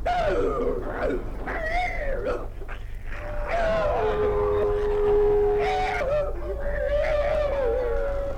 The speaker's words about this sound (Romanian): Asta ce mai e? Altul! S-a încăierat cu cerul! Nu! E un câine!